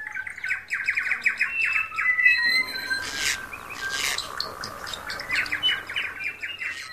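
Parrots squawk and chatter in rapid, harsh bursts of repeated calls, with louder rasping screeches in the middle. Shrill chirps layer over a steady noisy background, and no one speaks.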